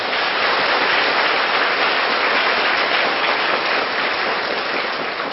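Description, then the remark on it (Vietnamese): A loud, sustained round of applause from a crowd, dense and steady clapping filling the whole stretch with a hissing texture, no voices over it. “Nếu các bạn thấy rằng là việc này làm được, thì cho một tràng vỗ tay thật lớn nào.”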